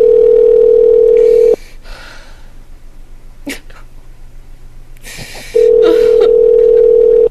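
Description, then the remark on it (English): A loud, steady telephone dial tone hums as a caller calls back after being disconnected, cuts off into quiet handset rustling and a sharp click, then the same flat tone returns. No one speaks. “Hey, do you want me to, should I call him back?”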